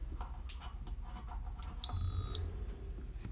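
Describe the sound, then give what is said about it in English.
A single high electronic beep lasting about half a second as a NuWave PIC Pro induction cooktop powers on after being plugged in, with a brief low fan whir rising underneath it. No talking. “And when you plug it in, it beeps and the fan comes on for a moment to indicate power.”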